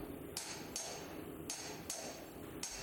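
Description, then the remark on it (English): Hammers strike copper in the copper market of a bazaar in a loose, uneven rhythm, about five ringing blows in a few seconds, each with a bright clang that fades quickly, over a steady background murmur of a busy place. “Yes, the familiar sound of hammers on copper.”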